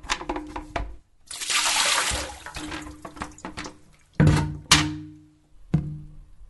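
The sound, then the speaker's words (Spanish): Water gushes and splashes out for about a second as containers that collect water are turned over, followed by a few hollow thunks of the containers being knocked over or set down, each ringing briefly. No voices. “Dando vuelta a todo lo que junta agua, no hay dengue.”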